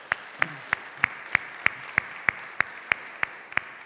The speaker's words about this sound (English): He got baptized this morning. Let's go ahead and clap because that's exciting stuff.